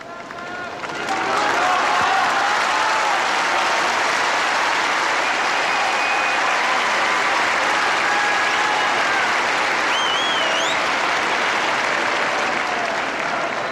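A huge crowd of pilgrims packing St. Peter's Square in the Vatican bursts into sustained, thunderous applause that starts abruptly and keeps going at full strength, a dense wash of clapping with faint whistles and cheers rising above it.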